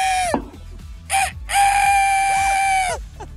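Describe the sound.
A person imitates a rooster crowing, loud: a brief call that drops off, a short burst, then a long sustained strained note that falls away at the end.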